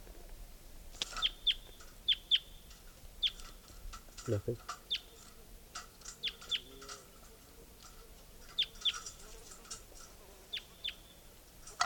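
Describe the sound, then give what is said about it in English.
A recording of bird number 467: song made of high, sharp chirps, often in quick pairs, repeating irregularly over a low background hum, with one brief low-pitched sound partway through. “It's recording bird 467.”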